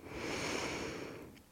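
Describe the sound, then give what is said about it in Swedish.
A slow, deep inhale through the nose during a breathing exercise: one steady, airy rush of breath that holds for about a second and a half before tapering off, with no talking. “Andas in.”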